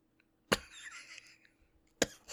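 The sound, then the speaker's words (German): Two sharp coughs from hay fever, about a second and a half apart, the first followed by a raspy, breathy trail; no talking. “Heuschnupfen. Ich habe ein bisschen Husten, habe ich auch davon immer.”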